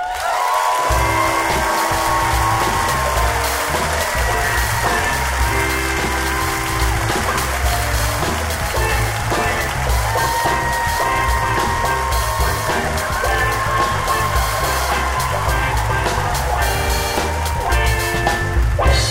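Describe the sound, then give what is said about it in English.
An audience claps and cheers as Oakland storyteller Don Reed is introduced, in a steady, loud wave that lasts nearly twenty seconds without fading, with some music playing underneath the applause. “Everyone, clap for you, clap for you.”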